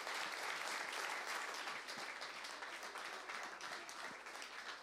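A crowd applauds steadily, a dense wash of many hands clapping at once that holds fairly loud throughout, easing only slightly toward the end, with no voices above it.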